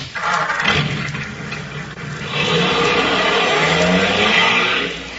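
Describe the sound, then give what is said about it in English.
A car engine roars and revs, surging in pitch as it accelerates, then settles into a loud sustained drone that fades slightly at the end. No one speaks. The driver's foot presses the gas pedal each time he hiccups. “Boy, every time you hiccup, TP, your foot goes down on the gas.”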